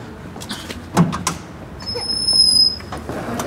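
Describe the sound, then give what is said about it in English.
The door of a simple restaurant styled like a traditional Austrian Beisel, with no name on the outside, opens: a couple of sharp clicks from the handle, then a thin, high squeal as it swings, over a steady low street rumble. “They don't even have the name on the outside. This is door.”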